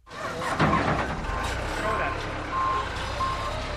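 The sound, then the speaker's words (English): Heavy end loader engines rumble and rev steadily at the construction site of the new Miami Science Museum in Miami, while a reversing alarm beeps about five times at even intervals, a thin mid-pitched tone cutting through the loud, continuous machinery noise. “The end loaders are revving up.”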